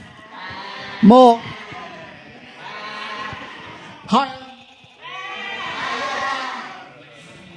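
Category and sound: vocal imitation, people imitating sheep bleating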